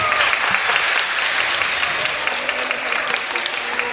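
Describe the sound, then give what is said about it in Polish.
A children's audience at a preschool olympiad in Krzymów claps loudly and steadily after the winners are announced, a dense, continuous wash of many hands that fills the whole stretch without pausing, with no talking over it. “Brawa!”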